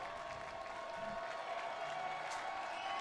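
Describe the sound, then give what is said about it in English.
A stadium crowd of baseball fans on Coney Island cheers and claps for the Brooklyn Cyclones, one strike from a shutout victory, in a steady, unbroken roar, with a dense wash of voices and applause holding at an even level for a few seconds. “And the fans here on Coney Island trying to cheer on one last strike.”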